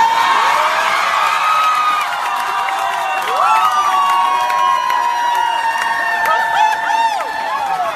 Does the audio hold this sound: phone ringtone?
no